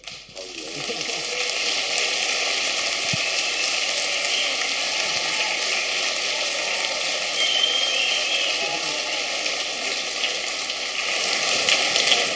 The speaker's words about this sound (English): Yes, do another applaud if you like. Normal applaudieren kann niemals schaden.